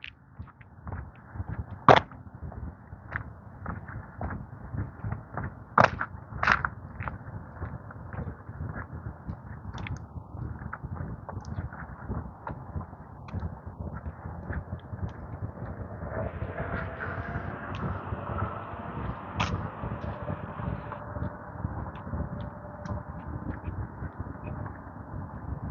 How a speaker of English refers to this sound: That's the quietest truck I think I've ever heard. I've never heard. I wonder if it was an electric. I didn't think it was a Ford. I didn't think Ford was making electric trucks.